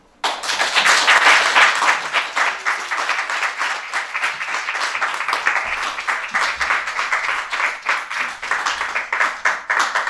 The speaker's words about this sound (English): One more big round of applause for all of our storytellers.